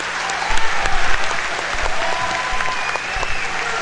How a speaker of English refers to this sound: Nice round of applause for Zeke.